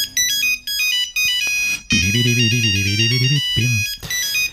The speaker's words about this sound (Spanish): Este sonido yo creo que a todos nos trae a la memoria, ese Nokia 3310, el móvil indestructible. Aguantaba caídas de altura sin romperse y su batería podía durar semanas en modo de espera.